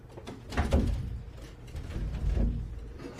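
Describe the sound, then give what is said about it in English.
A locked door is rattled and forced by someone trying to break it to get out, with two heavy, clattering jolts about two seconds apart over a low background rumble, moderately loud, with no voices. “Lock the door. No. You break that, you're really going to jail.”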